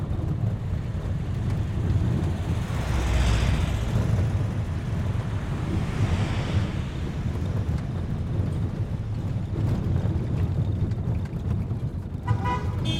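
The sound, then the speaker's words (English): Heavy trucks carrying people up to Camp Holmes rumble steadily along a road, a constant low engine drone with a couple of swelling whooshes as vehicles pass, and faint wind noise throughout. “How else are they going to get us up to Camp Holmes in these trucks?”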